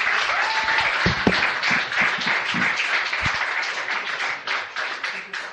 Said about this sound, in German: Wunderbar, geben wir doch diesen zwei Müttern einen Applaus.